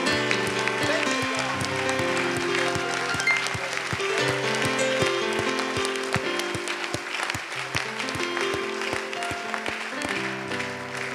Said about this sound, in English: Would you give the Lord a hand clap across the building?